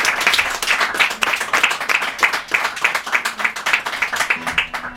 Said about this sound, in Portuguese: Ah, e pronto, enquanto eles ali ensaiam, deixem-me também agradecer aqui a todos que mais uma vez estiveram connosco aqui na Amália, este público bem amigo, e pedi então para fechar uma enorme salva de palmas para todos os intervenientes desta noite.